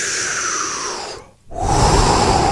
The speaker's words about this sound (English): Deep breathing exercises. I was just reading a study. Excuse me. I got to do mine.